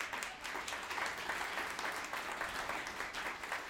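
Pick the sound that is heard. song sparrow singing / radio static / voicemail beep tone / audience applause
audience applause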